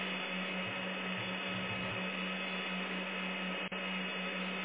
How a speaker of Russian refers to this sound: Это сервер гудит.